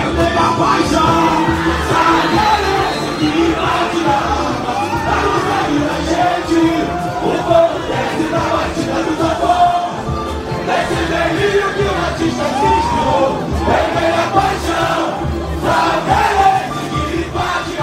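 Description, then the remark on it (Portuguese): A large crowd cheers and sings together at a Salgueiro samba school celebration as the chorus of its new samba-enredo for Carnaval 2023, theme "Delírios de um Paraíso Vermelho", is sung, a loud, dense wall of voices with shouts rising out of it, sustained without a break. “A parceria é de 8 compositores e o refrão levantou a torcida na voz do intérprete”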